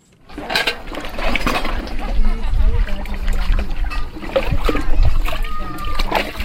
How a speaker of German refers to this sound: Eine junge Frau wäscht Geschirr in einem Becken am Boden. Es ist eine Ansammlung von Hütten, die die Vertriebenen mit Plastik und Holz selber gebaut haben.